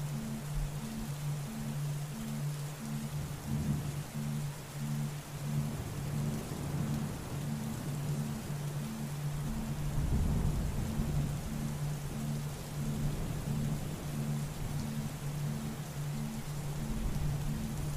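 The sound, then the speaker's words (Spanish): A summer thunderstorm: steady heavy rain hisses across the whole clip, with a deep rumble of thunder swelling around the middle and a low steady hum underneath. No voices. “Si somos naturaleza, ¿a qué se parecería una tormenta de verano en un ser humano?”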